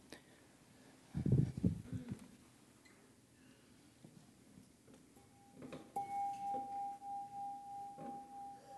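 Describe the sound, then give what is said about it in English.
A brief low rustle, then a bell is struck and rings out with a clear, steady mid-pitched tone that hangs on for several seconds, its loudness gently pulsing and wavering as it slowly fades. “I'm going to ring this bell.”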